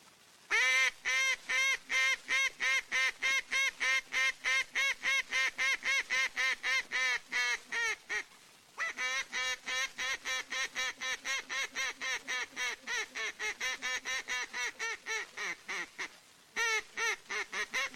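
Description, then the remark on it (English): Loud duck calling done near a river at Fontana, Kansas: a rapid, steady run of nasal quacks repeated many times over, broken by two brief pauses before the quacking resumes. No one speaks. “Here's duck calling is done near the Mertazine River at Fontana, Kansas.”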